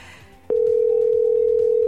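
A telephone dial tone as the radio station Freedom FM calls a contest candidate cuts in abruptly after a short, quiet lead-in, then holds as a loud, steady, unbroken single-pitched hum until the end.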